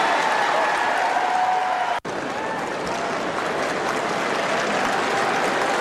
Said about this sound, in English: Somebody walked past to get to their seat next to David Beckham. Mm-hmm. That got a standing ovation by the crowd. Have a listen to this standing ovation.